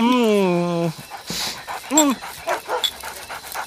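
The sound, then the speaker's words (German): A dog lets out a long, wavering whine, then a shorter whimper, followed by quick, rhythmic panting breaths, all fairly loud. “für dich gibt's leider keins. Aber du bekommst nachher leckeres Hundefutter. Versprochen. Brav, leg dich hin.”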